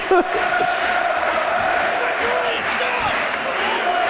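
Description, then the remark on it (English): A large football stadium crowd of Charlton fans at the Valley, on their feet in added time of a match against Blackburn, roars continuously, a dense wash of screaming and shouting voices that stays loud and steady throughout, with a few sharper yells rising out of the din. “Listen to that Absolute crowd. Absolute scenes here at the Valley. Covered in is screaming. They're shouting.”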